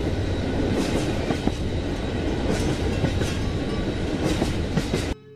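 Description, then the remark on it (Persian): A train rolls steadily along the rails with a dense, continuous low rumble and rattling, faint periodic clacks of the wheels over track joints, ending abruptly. “قطار حرکت میکند، آرام اما با شوق.”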